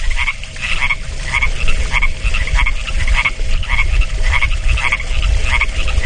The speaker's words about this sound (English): Why do they all do it at the same time? Do we know? I think it's some sort of a mating call. I think this is their courtship process. It's a hell of a courtship. Sure are a lot of frogs.